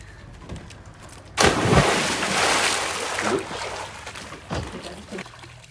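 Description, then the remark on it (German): After a brief quiet moment, a loud splash from someone jumping into a lake, followed by several seconds of churning, sloshing water with a couple of smaller splashes. “In den Badesee springen, ausschlafen, mit Freunden grillen, in den Urlaub fahren.”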